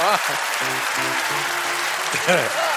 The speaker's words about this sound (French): Vous pouvez m'applaudir, j'ai fait du bon travail, là.